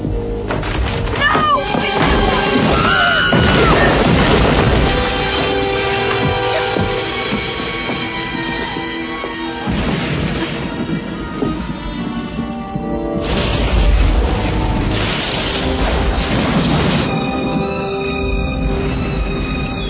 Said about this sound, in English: Thunder's sure getting close.